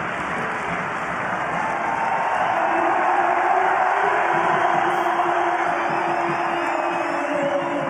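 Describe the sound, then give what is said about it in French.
A large crowd of Toulon rugby supporters at Stade Mayol roars and cheers as Baptiste Serin comes on in the 33rd minute to replace Ben White, a dense, sustained wash of noise, loud and steady throughout with a few higher whoops rising above the din. “Et quand il est rentré à la 33e minute pour remplacer Ben White, écoutez la joie des supporters.”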